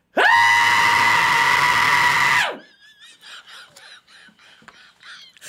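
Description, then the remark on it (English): A single loud, piercing human scream held steady for about two seconds, cutting off abruptly and followed by quieter, choppy vocal sounds. “I can still scream pretty loud.”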